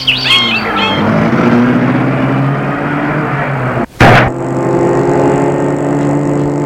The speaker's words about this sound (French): Il court vers le mur. Le saute et court vers la voiture en vitesse. Ils entrent dans la voiture. La voiture en route.